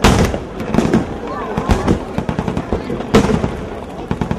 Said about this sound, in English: The Russian Black Sea Fleet stages its annual celebration at the nearby Crimean port of Sevastopol. The sound of Russian guns is disturbing for many Tatars with their tragic memories of the past.